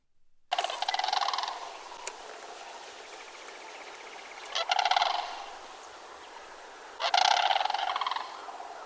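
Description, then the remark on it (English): Sandhill cranes give loud, rolling, rattling bugle calls in three bursts: a long opening call, a shorter one midway, and a final strong series. No one speaks. “Anyways, here's the sandhill crane.”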